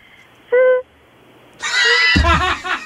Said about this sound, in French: Toi, qu'est-ce que ton corps fait d'étrange? Moi, je suis capable de siffler avec mon nez.